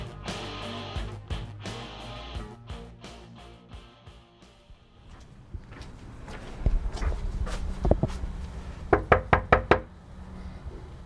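Knocking on a door, several firm raps near the end in a quick cluster, preceded by scattered thumps and faint background movement.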